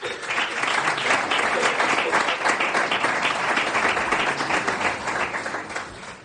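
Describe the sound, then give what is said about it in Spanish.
Audience applause for Gabino García, director of Cope Granada, at a Semana Santa event: a dense, steady wash of many hands clapping at once, loud and sustained for several seconds before easing slightly at the end. “Así que habla Gabino García, un aplauso.”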